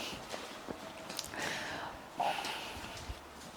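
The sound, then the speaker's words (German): A few muffled, breathy coughs and sharp snorting breaths as someone clears their throat after choking on water. There is no speech. “Huste. Ich habe mich verschluckt am Wasser.”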